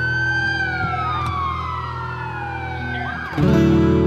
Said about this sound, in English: I hear the ambulance is coming.